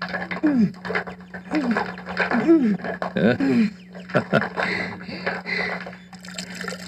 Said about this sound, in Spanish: Sí, tienes muchísima razón. Con menos esfuerzo sacamos el agua del pozo.